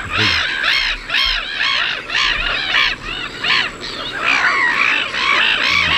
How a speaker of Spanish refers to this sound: Yo creo que no son gaviotas estas. Estos son gaviotas reidoras.